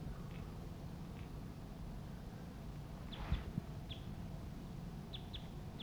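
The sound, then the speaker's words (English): Two male wild birds calling from the trees immediately overhead: short, high chirping notes come in scattered bursts, some in quick pairs, set against a steady low rumble of outdoor background noise. “Two male wild birds are calling at this time.”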